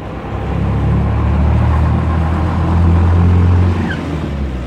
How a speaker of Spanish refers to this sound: En Plaza de Mayo, los autos hacen su recorrido habitual, pero hay un grupo de personas.